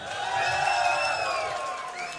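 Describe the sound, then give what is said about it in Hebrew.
A crowd cheers and whoops loudly and continuously, many voices shouting together with possible applause mixed in, sustained at an even level for a couple of seconds, as performers are called up onto the stage at a festive event. “שימו לב, תכף יעלו לכאן על הבמה ואני רוצה על כל שם יחיות כפיים שערות.”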